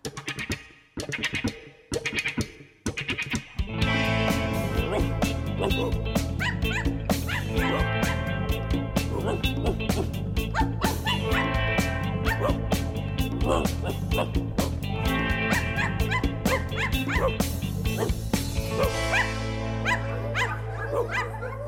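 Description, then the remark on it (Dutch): A voice imitates a dog barking, with several short, loud woofs in quick succession, followed by upbeat music with singing that continues to the end. “Do the hond na, en doe woef woef.”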